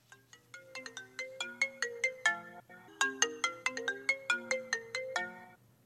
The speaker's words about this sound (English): What on earth is that? Oh, settle down. It's my cell phone. It's Bluetoothed into the car speakers.